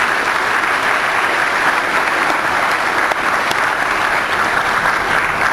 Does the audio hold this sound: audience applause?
yes